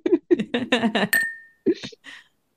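Glasses clink once in a toast, a bright chime whose ringing tone lingers for about half a second, with people's voices just before and after.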